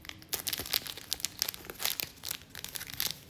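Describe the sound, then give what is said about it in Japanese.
A package being torn open: a steady run of crisp plastic crinkling and rustling bursts for about three seconds, with no voices. “ちょっと黄色読めないじゃあ開けますね。”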